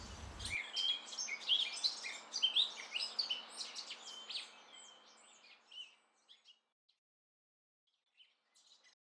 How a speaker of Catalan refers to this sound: Ens estima amb mongetes i tomàquets, amb panotxes i mores i amb cants d'ocells.